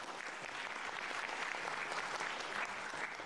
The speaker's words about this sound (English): Thank you very much. Thank you very much. That's when you clap. Come on. Thank you.